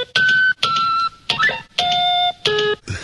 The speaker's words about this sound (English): I need to freshen up on my 3PO conversation. Beep, beep, boop, beep, boops. So I understand. It's the old Star Trek Trek computers. I hear the dials turning.